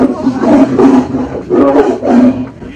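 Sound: big cat roaring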